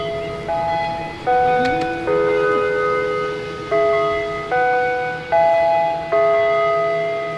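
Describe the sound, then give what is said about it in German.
A Westminster chime gong rings out a slow melody of about seven struck notes at shifting pitches, each tone ringing and fading before the next, over a faint steady hum. It is the wake-up and mealtime signal at the Shady Lane colony. “In Shady Lane ist es der Westminster-Gong.”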